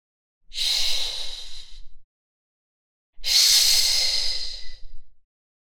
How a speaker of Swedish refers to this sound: Låt armarna röra sig från sida till sida, precis som en trädtopp i vinden, medan du gör ett susande ljud om du önskar.